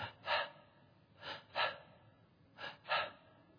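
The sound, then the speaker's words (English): A voice imitates a very sick little boy's very shallow, labored breathing at night: short, raspy breaths drawn in quick pairs, repeating three times at a steady pace, fairly quiet, with no talking. “had a very, very shallow breathing. And you could hear him breathing at night, and it was like this.”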